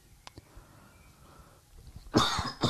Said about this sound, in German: über diese Husten. Ich muss mich einfach nur entschuldigen für das, was hier ins Mikrofon gehustet wird.